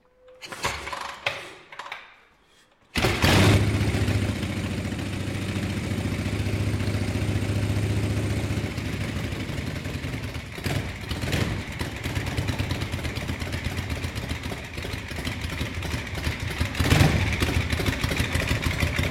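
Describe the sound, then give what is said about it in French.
A few sputtering kicks and coughs as a motorcycle that has not started in five months is kick-started, a brief pause, then the engine catches and settles into a loud, steady idle with a clattery, uneven rumble. “Ça fait 5 mois qu'elle n'a pas démarré. Comme quoi, le bon vieux Kik.”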